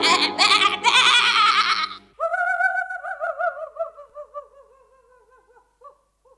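A goat bleats loudly: a harsh, raspy cry lasting about two seconds, then a long quavering bleat that wobbles in pitch and gradually fades away. No talking.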